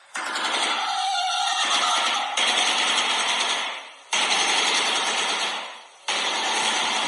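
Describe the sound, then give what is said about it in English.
A shoebill clacks its beak open and shut very rapidly, making a loud, dry rattling that runs in long bursts of about two seconds with short breaks, echoing around an interior. “Now this noise is generated by the shoebill, basically clacking its mouth open and shut really fast.”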